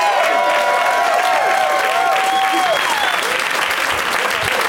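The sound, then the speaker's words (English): A crowd breaks into loud, sustained applause with dense clapping throughout, mixed with whistles and cheering voices that rise and fall over the steady roar, as the audience welcomes guests Mark Ellis, Josh Wolf, Ross Marquand and Freddie Prinze Jr. “Please give a big warm welcome to Mark Ellis, Josh Wolf, Ross Marquand, and Freddie Prinze Jr.”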